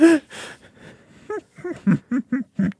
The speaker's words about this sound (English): pulling off the patented … gasp that started the scene